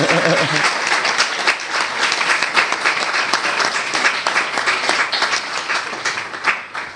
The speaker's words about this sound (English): So I want you to give a full applause to our scientist and our friend. Bravo! Thank you.